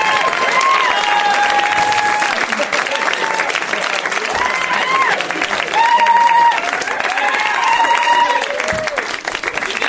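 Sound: audience clapping and cheering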